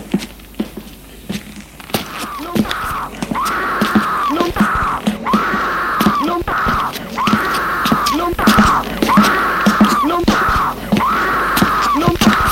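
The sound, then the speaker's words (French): Eerie, strained screams heard from a basement rise and fall in a steady rhythm, about six long wailing cries in a row, with sharp knocks and clatter scattered underneath. “Il entend des cris étranges, des cris horribles.”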